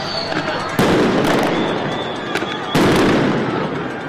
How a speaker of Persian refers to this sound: رسانه‌ها گزارش دادند که افسران فدرال در مرکز شهر در تلاش برای متفرق کردن معترضان اقدام به پرتاب گلوله‌های گاز اشکاور کردند.